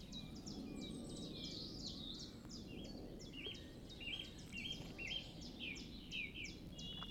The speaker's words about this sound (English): It's beautifully quiet, apart from the bird song. It is a piece of heaven, this. It is a haven and a piece of heaven. It's lovely.